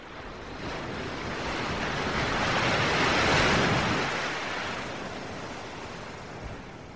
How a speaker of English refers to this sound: And a particularly large wave kind of rocks the boat to the side as the crew is bringing in sails and preparing the ship for choppier waters.